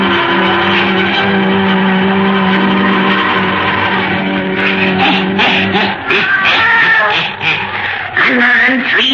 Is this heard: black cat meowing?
yes